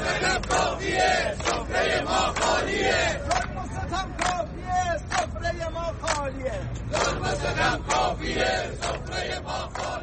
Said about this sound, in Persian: صدای قابلمه های خالی مردم را بشنوید.